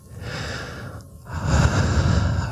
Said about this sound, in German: Wir atmen erstmal ganz ruhig.